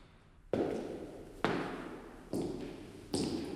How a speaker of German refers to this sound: Gleich hörst du meine Schritte. Folge ihrem Rhythmus. Die Treppe hoch.